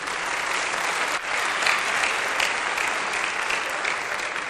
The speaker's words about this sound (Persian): تشویقش کنی.